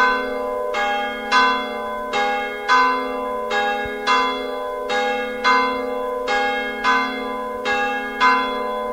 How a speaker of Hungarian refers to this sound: Délben megszólal a harang? Nem, csupán csak hétfő reggel szól a harang, azután pedig minden este.